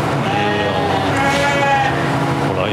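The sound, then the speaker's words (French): About 380 ewes bleat at once in a milking parlour during milking, a dense, continuous chorus of overlapping wavering calls, loud throughout. “En ce moment, 380 brebis, on met entre 1h15 et 1h30, matin et soir.”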